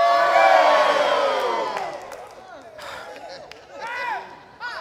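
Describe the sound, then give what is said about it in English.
An audience at worship roars and shouts together in a loud, sustained burst that gradually fades over a few seconds, leaving scattered individual cries and whoops. “Did you hear that roar?”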